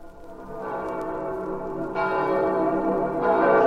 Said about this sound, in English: Listen to the bells of St. Peter's calling the faithful to midnight mass on this holiest of nights.